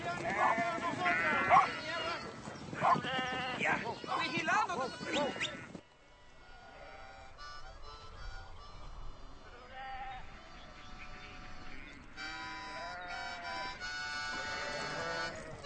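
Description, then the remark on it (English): Several sheep bleat in loud, overlapping bursts, then the flock quiets to fainter, scattered bleats over a low background murmur before a few more calls rise near the end. “You run them sheep off again if you don't quiet down.”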